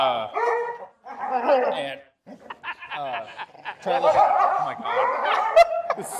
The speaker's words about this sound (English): Oh, my dogs are barking.